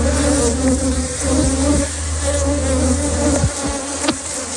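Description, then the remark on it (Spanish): A dense, continuous buzzing of a swarm of about 100,000 bees, loud and steady throughout with layered droning tones and occasional individual bees zipping past. “Y este, el sonido que hacen 100.000 abejas.”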